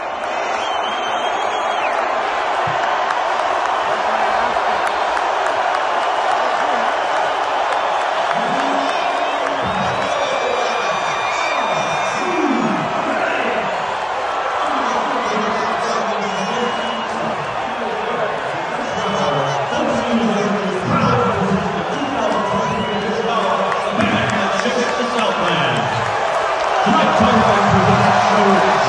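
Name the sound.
stadium crowd cheering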